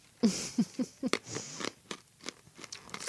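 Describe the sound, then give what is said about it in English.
A hard Ricola herbal cough drop is crunched between the teeth: several sharp, loud crunches in quick succession, then softer, irregular chewing and grinding. No one speaks. “I just crunched my Ricola.”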